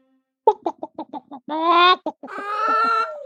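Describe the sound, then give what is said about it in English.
Chickens on a smallholding outside the city of Salzburg cluck in a quick run of short calls, then break into two loud, drawn-out squawking cries. No one speaks. “We take you now to a small holding outside of the city of Salzburg.”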